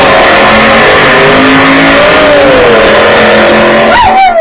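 Dr. Kaldenberg's 1956 Chevrolet arrives, its engine revving loudly and steadily, its droning pitch climbing and dipping, then surging sharply near the end. No voices are heard.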